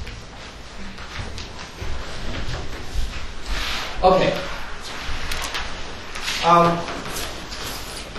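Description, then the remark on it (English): Two short scraping drags of a chair across the floor as a chair is put in place for someone at a group discussion, over a room murmur, with a brief spoken word. “I can just put a chair up there.”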